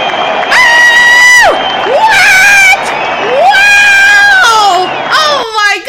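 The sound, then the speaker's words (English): A recorded applause track: a loud crowd cheers and whoops, with long sustained shouts rising and falling over a steady roar of noise, lasting about six seconds without letting up. “Actually, this is the first introduction of the applause track.”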